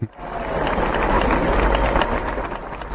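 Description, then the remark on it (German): A crowd applauds steadily, a dense, even wash of many hands clapping that holds at full strength for a few seconds with no voices over it. “Ja, Applaus.”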